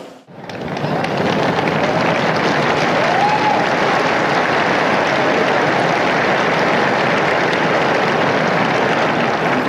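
Sustained, dense applause from a large crowd of pilgrims greeting Pope Francis and thanking him for his teaching and blessing, starting abruptly and continuing steadily at full strength, with a faint whistle or cheer rising briefly above it.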